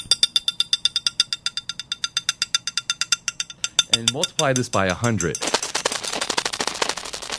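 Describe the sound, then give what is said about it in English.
Recorded electrical activity of a sleeping cat's brain, played from a cassette tape in a lecture class: a rapid, steady train of sharp clicks, then a man speaks briefly before the clicking thickens into a dense, continuous crackle. “This, the professor announced, is the sound of a cat's brain while asleep.”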